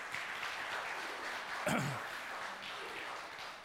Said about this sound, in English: I think to the glory of God, we can give another round of applause. Thank you.